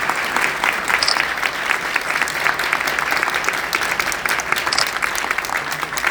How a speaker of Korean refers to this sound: 세 분 잠시 자리에서 일어나 주시기 바랍니다. 여러분 큰 박수로 맞아 주십시오.